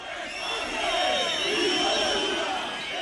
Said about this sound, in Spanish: Se han llevado a cabo movilizaciones paralelas en protesta por el acto. Estos eran algunos de los abucheos que recibían los participantes.